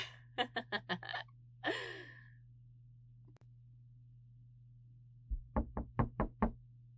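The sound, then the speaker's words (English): A quick series of four knocks on a locked janitor's closet door blocked by a chair, a brief scuffing burst, then after a pause a heavier run of about six thudding knocks, all over a steady low electrical hum. “Is that a door?”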